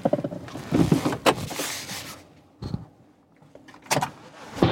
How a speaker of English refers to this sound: Ah! I just heard a gunshot. That makes you jump.